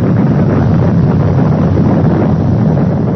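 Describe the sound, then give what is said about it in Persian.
A deep, sustained roaring rumble from the 140-kiloton underground nuclear explosion of 15 January 1965 in the dry bed of the Chagan and Ashisu rivers in northern Kazakhstan, which threw out over 10 million cubic metres of earth; loud and steady throughout, with a dense low-end churn and no voices. “انفجار از قعر زمین بیش از 10 میلیون متر مکعب خاک را به بیرون افکند.”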